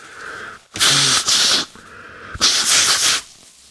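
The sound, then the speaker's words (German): Someone blows their nose in two loud, breathy honking bursts, each a forceful rush of air lasting under a second with a brief pause between, followed by quiet. “Kleinen Moment, ich muss noch mal kurz schneuzen.”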